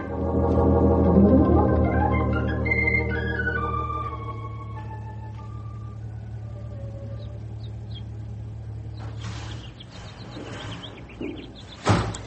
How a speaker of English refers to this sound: There you go, slamming that there screen door again. Won't you never learn?